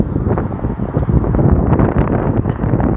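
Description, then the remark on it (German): Strong wind buffets the microphone at a high spot outdoors in a continuous low rumble with gusty bursts, loud throughout, with no voices. “Und der Wind ist hier oben halt auch ziemlich stark.”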